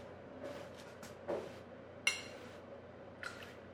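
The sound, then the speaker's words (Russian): Quiet liquid being poured from one mug into another after being split between two mugs: a few brief, soft splashing trickles and one sharp ceramic clink, with no voices. “Зачем ты разделил на две кружки, а потом в одну наливаешь, когда ты с другой только что вылил?”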